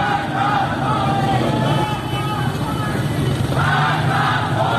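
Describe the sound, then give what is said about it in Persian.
A large crowd of protesters in Iranian cities such as Rasht chants slogans in unison, including "Death to Khamenei", "Freedom, freedom" and "Death to the dictator". The loud, rhythmic shouting rises and falls in repeated phrases over a constant roar of many voices. “در شهرهای رشت، عراق و زاهدان هم معترضان شعارهایی از قبیل مرگ بر خامنه‌ای و آزادی آزادی سر دادند.”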